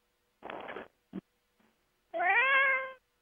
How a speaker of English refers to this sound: Hello, kitty cat. Welcome to the call. Who is that that's got the cats? Meow.